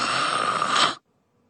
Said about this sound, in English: I jump again. Her snores are terrifying.